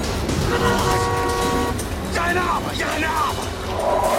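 During a car chase in a city, traffic roars as a car horn blares in one long, steady honk, followed by sharp squealing, swooping tones like brakes, all over a constant rumble of engines.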